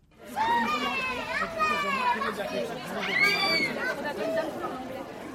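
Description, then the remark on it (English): Busy babble of many young children's high voices, with shouts and squeals rising over a steady crowd murmur of parents' chatter, continuous and lively throughout, outside a primary school in Villemomble, Seine-Saint-Denis, on the last day of school. “It's the last day of school and there's quite a crowd of little kids and parents here outside the primary school in Villemomble”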